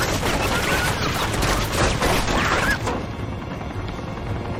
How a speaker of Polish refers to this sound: Tam jest ten helikopter. On takimi seriami, widzicie, strzela.